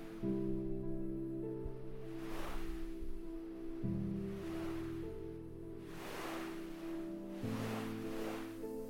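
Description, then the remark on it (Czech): Gentle waves of a calm ocean roll onto a sandy shore in the early evening in slow, soft swells every couple of seconds, washing in and fading, with a steady low humming drone sustained underneath. “Nohy máš v teplém písku a slyšíš šumění vln.”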